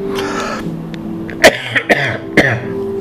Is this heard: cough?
yes